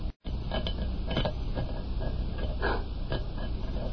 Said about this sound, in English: What are you doing with that rock? I want to scratch something on the outside of this lead door.